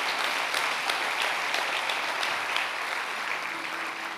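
A crowd gives a loud applause to God, clapping steadily, a dense wash of many hands with scattered sharper claps standing out, sustained for several seconds and tapering only slightly at the end.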